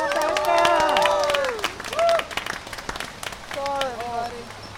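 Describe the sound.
An audience applauds with steady, dense clapping as an organizer of Tacoma Housing Now is called up to speak, while voices cheer and whoop over it in rising and falling calls before the clapping tapers off.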